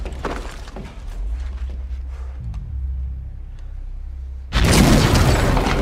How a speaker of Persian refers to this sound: اون چی بود؟ یه انفجار رخ داده.